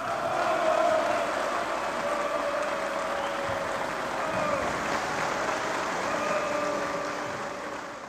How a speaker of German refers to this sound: Diesmal gibt es langanhaltenden Applaus. Du hattest es schon gesagt, es ist das Jahr 1952.